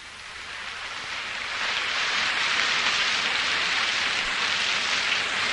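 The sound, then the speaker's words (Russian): A steady, dense hiss of heavy rain pours down in a stormy downpour, growing a little louder after the first couple of seconds and holding constant, with no voices. “Но дождь и буря, казалось, не могли сравниться с тем, что бушевало у нее в груди.”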